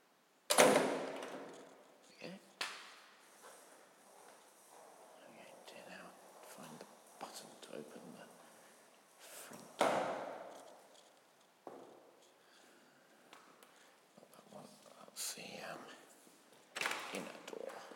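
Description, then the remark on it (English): A big outer cage door clanks shut with a loud metallic bang, followed by a few more sharp rattling knocks over the next several seconds, while a soft whispering voice murmurs between them. “And a big cage door at the outside, which I shall shut.”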